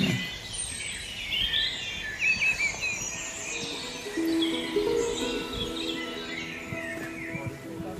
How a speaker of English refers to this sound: That's a dunnock that is calling in the background over here. There's a pheasant in the background as well.